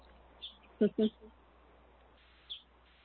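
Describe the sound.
A few faint, scattered bird chirps sound in a quiet outdoor setting, with a brief murmur of a voice early on.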